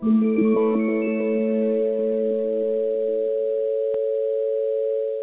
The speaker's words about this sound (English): That's the UMA dial tone. Listen for it whenever UMA is plugged in and your internet connection is up.